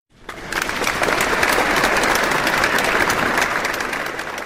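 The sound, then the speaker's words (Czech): Sustained applause at the afternoon Gloria Musealis awards ceremony in the Smetana Hall of the Municipal House, Prague, for the National Gallery as new winner of the Czech ICOM Committee prize; a dense steady patter of many hands clapping that rises quickly and holds at a loud, even level, with no voices over it. “Potlesk na slavnostním odpoledni ve Smetanově síni obecního domu patřil také novému držiteli ceny Českého výboru ICOM, kterým se stala Národní galerie za výstavu Otevři zahradu rajskou, benediktíni v srdci Evropy 800 až 1300.”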